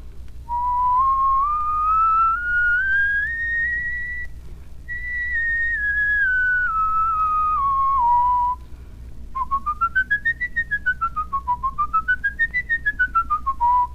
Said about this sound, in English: And the higher you go, try to loosen the pucker more. Because if you tighten the pucker too much, you're going to choke the whistle off. Now then, let's do one scale.